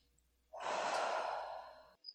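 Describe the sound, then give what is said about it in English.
A single deep, breathy exhale lasting about a second and a half, fairly loud, from a person standing and breathing during a medical exam, with a soft airy hiss fading out before a brief quiet click at the end. “Okay, why don't you stand up for a second and keep breathing?”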